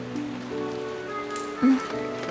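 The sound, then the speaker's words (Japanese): Steady rain falls in a continuous soft patter, with a brief louder knock partway through and low sustained tones humming faintly underneath. “雨が止んだら起こしてあげる。”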